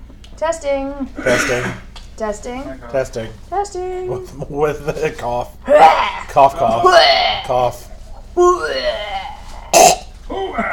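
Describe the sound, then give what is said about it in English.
Several loud, scattered coughs and throat-clearing rasps as someone tests a microphone, mixed with vocal sounds and a gasp-like breath between them. “Yeah, let's test my cough.”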